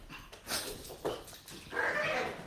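A dog barks and whimpers excitedly in a few quick, uneven bursts, fairly faint, with a longer whiny yelp near the end and no one speaking.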